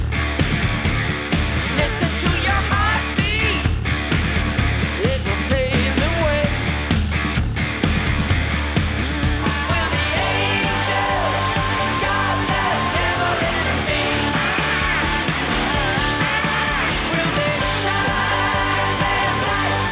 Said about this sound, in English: I love it. And then you have some nice screaming in there too.